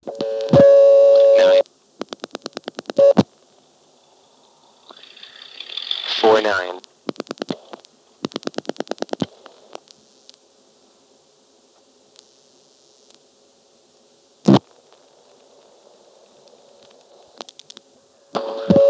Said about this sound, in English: Anyway, here's dialing 9 plus a 4 plus a 9, then hanging up briefly, and when I pick up the phone, you can hear a little burst of a very high frequency ring.